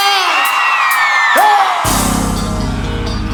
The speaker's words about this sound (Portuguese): Cadê o gritão das Santinhas?